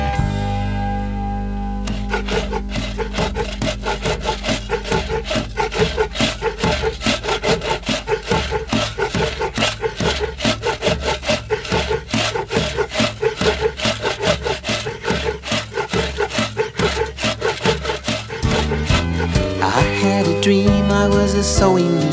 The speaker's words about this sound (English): I was a sawing machine, a wood saw was I. I'd cut up lumber and I'd cut up logs and watch the wood chips fly.